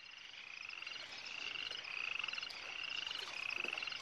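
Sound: frog croaking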